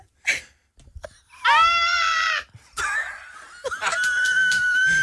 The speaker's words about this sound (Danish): Var det dit bedste uluftede skrig? Ja. Altså, jeg ved ikke, om jeg overhovedet kan skrige.